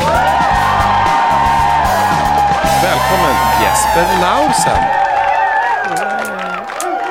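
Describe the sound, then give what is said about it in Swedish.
Loud crowd cheering and applause fill the background throughout, with whoops and yells rising over a steady roar while a voice speaks a greeting on top. “Nu hörde inte de mäktiga applåderna som lades på där i bakgrunden, men du får tänka dig in i dem.”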